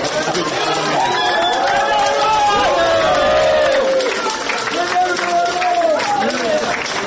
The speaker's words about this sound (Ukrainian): Журналісты, праваабаронцы, палітыкі, грамадскі дзеячы чакалі вынікаў у калідоры і на ганку. Абвінавачаных, вызваленых з-пад варту залі суду, яны сустракалі кветкамі, воклічамі і аплодысментамі.